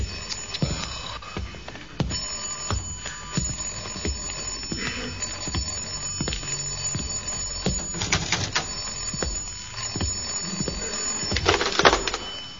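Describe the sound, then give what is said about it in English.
An old-style telephone bell rings in bright, rattling bursts that repeat and swell louder toward the end, with scattered clicks and background clatter and no voices. “I mean, I'll have that phone brought up in the bedroom next week.”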